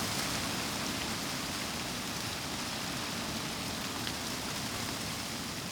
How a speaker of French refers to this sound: Ce crépitement que l'on entend, c'est le vent. Le vent est aussi le chant des branches et des feuillages d'un peuplier noir. Donc le vent balaye par un coup le houppier, c'est-à-dire le sommet, enfin toute la partie feuillue du peuplier.